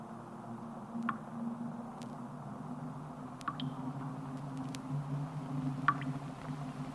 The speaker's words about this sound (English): Nothing. I mean, there's still the waves, but that's nothing new.